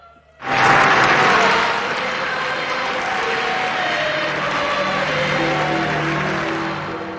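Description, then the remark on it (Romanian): A large crowd at the funeral procession of Pope John Paul II breaks into loud, sustained applause that starts abruptly and holds steady for several seconds, a dense wash of clapping with a faint murmur of voices beneath, easing slightly at the end. “Lacrimi, aplauze și rugăciuni l-au însoțit pe Papa Ioan Paul al II-lea pe ultimul său drum.”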